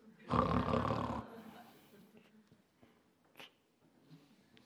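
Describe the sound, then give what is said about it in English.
A single loud, rasping snore lasting about a second, likely a voice imitating a grandfather's snoring, followed by quiet background noise with a few faint clicks and murmurs. “He said, grandpa snore.”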